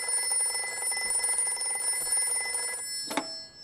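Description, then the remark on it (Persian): A telephone bell rings at Parvin's home, a call placed by Mohammad Reza, in one continuous rattling burst for nearly three seconds, then falls silent and is followed by a sharp click, like a receiver being lifted. “فردای اون شب محمد رضا به منزل پروین تلفن کرد.”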